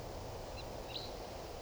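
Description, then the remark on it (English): Two faint, brief high-pitched flight calls of a wild type 3 crossbill chip out about half a second apart over a steady hiss of background noise. “I think I hear a type 3 bird.”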